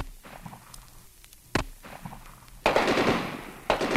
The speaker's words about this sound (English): With tear gas and gunfire pouring into the Los Angeles home,